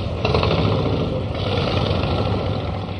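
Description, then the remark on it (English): A Harley-Davidson motorcycle engine idles with a steady, deep rumble that holds at an even, fairly loud level throughout, with no voices over it. “Harley-Davidson's line the boardwalk next to the lake.”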